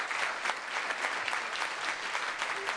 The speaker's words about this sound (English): They're Vietnam veterans, and several of them are with us today. Is that right? Where are they? Round of applause. Big round.